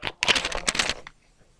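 A pencil scratches quickly across paper, a brief stroke followed by a longer burst of rapid scribbling, then quiet.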